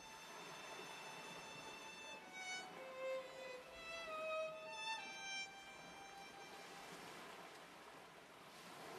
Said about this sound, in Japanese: 寄せては返す波の合間にかすかなバイオリンの音色を聞いた。野間崎灯台に違いないが、心地よさそうな演奏を邪魔するのははばかられる。